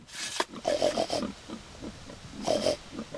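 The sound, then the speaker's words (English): A family's pigs grunt and snuffle as a man greets them, a run of short, breathy bursts and squeaky snorts, pausing briefly before a final cluster of grunts. No one speaks. “He snuffles softly to his family's pigs to greet them.”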